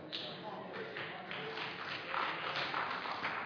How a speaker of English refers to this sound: Somebody's clapping on that, but it is the truth.